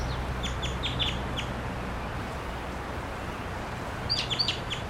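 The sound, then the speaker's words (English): Two short bursts of sharp, repeated calls from a wild crossbill, quick 'kip' notes a few at a time, at 9:28 a.m., over steady outdoor background noise and a low hum. “I got a wild crossbill here at 9:28 a.m.”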